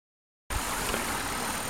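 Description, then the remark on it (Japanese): After a brief moment of silence, a car's engine hums steadily at idle after braking because an acquaintance passed on the neighboring road, a continuous rumble with a faint hiss and low throbbing pulses, with no one speaking. “はい、ちょっと今ね、知り合いの人が隣の道を通りましたんでブレーキがかかりました。”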